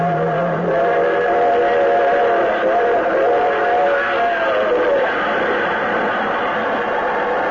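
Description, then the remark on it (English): A diesel train engine charges past, making the grade, in a loud, steady roar, a sustained horn-like tone sounding over it for several seconds before giving way to continuous rumbling noise. “He could hear other engines go charging on by, making the grade without having to try.”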